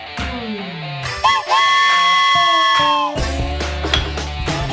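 A steam train whistle sounds one long, loud, chord-like blast lasting a couple of seconds, with rumbling, clattering train noise continuing after it fades.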